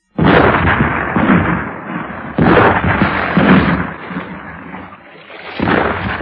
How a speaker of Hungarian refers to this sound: Ő felségét érkezésekor 19 ágyú vízsortüze fogadja.